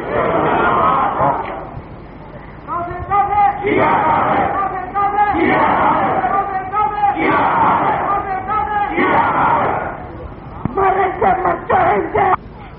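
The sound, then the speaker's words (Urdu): A large crowd at a political rally chants slogans in unison, loud, in repeated rhythmic bursts of shouted voices with brief lulls between each round of chanting. “آپ نعرے کم لگائیں گے، وقت بہت کم ہے تو میں سفر زیادہ کر سکوں گا.”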